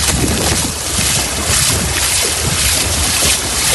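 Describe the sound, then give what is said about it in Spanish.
A loud, steady roar of rushing floodwater pours from an overflowing ravine that runs through the town centre of a locality in Valencia, Spain, a dense, unbroken wash of noise that stays constant throughout with no voices. “se vivían momentos de mucha tensión al desbordarse el barranco que atraviesa el casco urbano”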